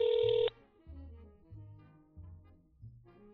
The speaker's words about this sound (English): Here we go. Ringing. Second ring.